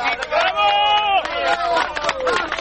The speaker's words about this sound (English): Rescuers cheering there. That avalanche that hit the hotel in the town of Frondoli likely was triggered by a series of strong earthquakes.